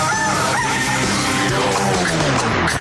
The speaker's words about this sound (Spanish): El gallo de Radioactiva está...